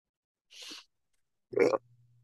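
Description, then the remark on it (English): A short breathy hiss is followed a second later by a brief, loud, low gurgling burp that trails off into a faint low hum. No one speaks. “That's disgusting. Don't burp.”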